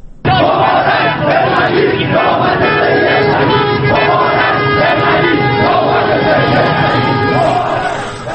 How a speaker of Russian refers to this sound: Люди кричали: «Мубарак, Бен Али, теперь очередь Али».